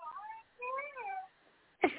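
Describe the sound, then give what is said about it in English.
A baby boy coos and babbles in soft, high, sing-song bursts with rising and falling pitch, followed by a pause and a brief sharp thump at the end. “He was cooing. And I said, are you praying? He's just smiling right now.”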